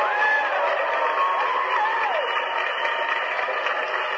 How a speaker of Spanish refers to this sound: Aplausos a Carmelita, por favor.